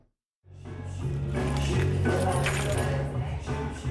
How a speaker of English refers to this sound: A scene repeated in bars across South Africa every day. A patron walks in, tosses his car keys on the counter, and starts drinking alcohol.